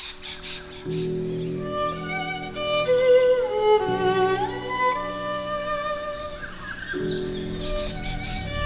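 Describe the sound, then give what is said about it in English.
Birds squawk and chirp in short bursts near the start and end, over sustained violin tones that play steadily throughout, with faint street sounds, outside the School of Arts in a small Australian country town during the Kendal National Violin Competition. “The sweet voice of violins, mingling with the birds and the street sounds of this small country town, happen every year at this time.”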